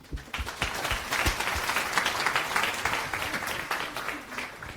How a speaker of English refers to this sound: Big round of applause